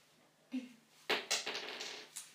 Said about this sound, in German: Jetzt darf ich würfeln.